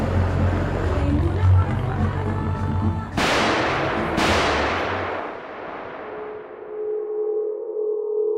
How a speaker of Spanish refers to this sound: Dos disparos detienen el tiempo en el centro de Bogotá. Son las 11:40 de la mañana del 6 de noviembre de 1985.